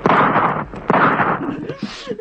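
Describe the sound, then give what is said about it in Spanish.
Two loud gunshots ring out about a second apart, each blast followed by a rumbling echo, then a few fainter scuffling noises. “¡Los disparos no los detienen!”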